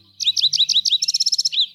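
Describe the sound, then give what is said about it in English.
A yellow-eyed junco's bright song: a series of five slurred, sweet notes followed by a quick trill of rapid chips and a final slurred note, clear with no voices. “Yellow-eyed juncos can be found shuffling through leaf litter in the southeast corner of Arizona and central Mexico, searching for tasty seeds from pines and oaks.”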